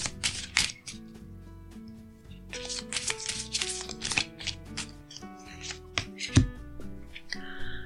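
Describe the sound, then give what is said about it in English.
Affirmation cards are shuffled in several quick, papery riffling bursts, over soft, steady background music with no one speaking. “Okay, so let's shuffle these cards and see what we need to affirm today.”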